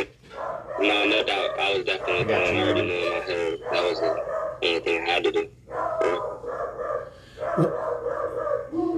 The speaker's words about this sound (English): Look, the dogs are barking. They want to know the answer too.